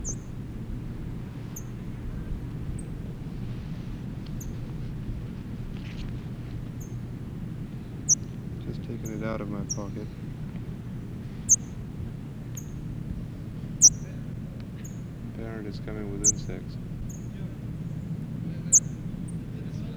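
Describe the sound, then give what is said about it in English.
A parrot chick held in a person's hand gives thin, high-pitched chirps every second or two, irregular and fairly faint, over a steady low background hum, with a couple of brief buzzier, wavering calls in the middle. “Chick is in my hand, chipping.”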